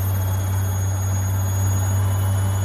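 A washing machine on its spin cycle, at about 70 to 80 decibels, gives a steady, loud mechanical drone with a deep, unbroken hum and a constant whooshing rush on top, holding even throughout with no voices.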